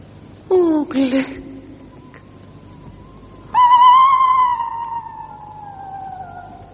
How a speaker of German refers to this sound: Furchtbar ist dieser Eulenruf.